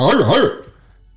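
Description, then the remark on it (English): A person's voice imitates a large, vicious dog's bark: one loud, warbling growl-like yelp lasting about half a second, then fading into near silence. “your answer is no, you've never done this, then you have to bark like a large, vicious dog.”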